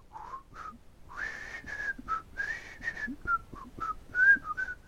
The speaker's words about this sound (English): See, I was trying not to actually whistle because it'll sound like shit on here. Like that, I'm whistling. It's like quietly whistling.